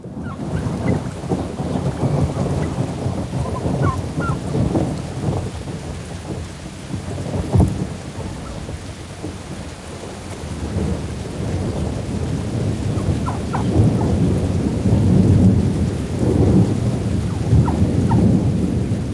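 Steady rain pours down with low, rolling thunder rumbling throughout, swelling louder near the end. A dense, continuous wash of sound with no voices.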